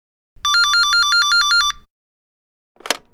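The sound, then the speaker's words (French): A telephone rings at a restaurant around 6 p.m. with a rapid, trilling electronic warble lasting over a second, followed by a brief clatter like a receiver being picked up. No voices are heard. “Vers 18h, le téléphone sonne au restaurant de Loïc Bertrand.”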